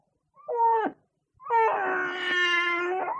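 A little boy, Adam's little brother, wails in two loud, high-pitched cries: a short one that breaks off, then a longer, sustained howl that holds steady without any talking.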